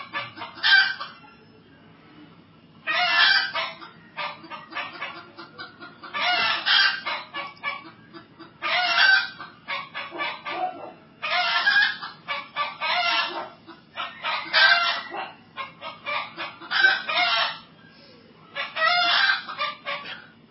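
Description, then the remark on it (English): Chickens cluck and squawk in loud, repeated bursts every couple of seconds, with a rooster crowing among them over a faint low background rumble. “Do you know why these chickens are there? They know they are going to be recorded.”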